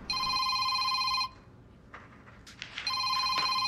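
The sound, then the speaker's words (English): A telephone in a man's office, where he sits at a desk, rings loudly with a bright, trilling electronic bell, two long rings separated by a short pause filled with faint rustling and clatter, and no voices; he then answers it. “He answers his phone.”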